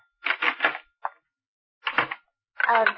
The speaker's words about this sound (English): Well, excuse me, there's the phone in the den.